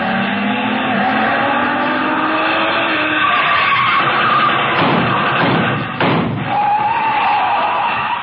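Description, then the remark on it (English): A car roars along with loud, drawn-out tire squeals as it skids, then a heavy thump partway through before the engine noise carries on. No voices are heard. “Toward the same destination as another car.”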